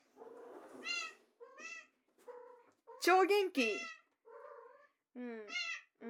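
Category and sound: animal, cat meowing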